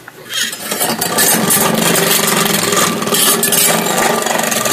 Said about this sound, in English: It's an awesome machine. Crank up the vacuum cleaner.